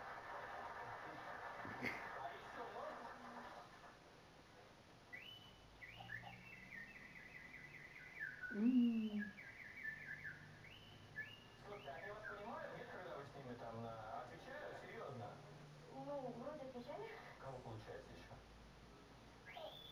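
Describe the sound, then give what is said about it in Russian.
A bird sings a long, varied string of whistles, chirps and warbles, switching between different phrase types as if copying other species, over a steady background hiss. “пыталась паразировать разных птиц, мне это было очень интересно”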